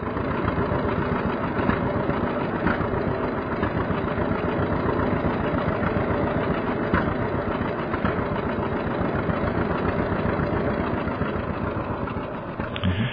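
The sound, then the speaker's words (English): A two-cylinder John Deere Model B tractor engine runs steadily, its rapid, uneven chugging pulses holding a constant idle for the whole stretch, fairly loud, with no voices. “It has a distinctive sound. It's a two-cylinder engine.”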